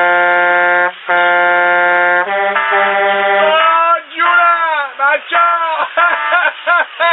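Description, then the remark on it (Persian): A truck driver on the road near Chabahar, calling in to a radio show, gives a long continuous horn blast to alert fellow drivers: a loud, buzzy horn-like tone holds steady with a brief break, then turns into wavering, bending bursts, sounding much like a voice imitating the horn over a narrow, phone-like line. “جون من، بذار من یه بوق ممتد بزنم بچه ها رو خبر کنم.”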